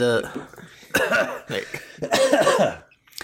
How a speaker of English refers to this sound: Before you talk, cough.